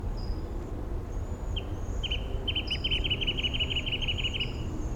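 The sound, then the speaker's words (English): A wrentit calls in the background, a quick run of repeated notes speeding into a trill, while thin high chirps and a steady low outdoor rumble continue underneath. “Five seven with a wren tit in the background.”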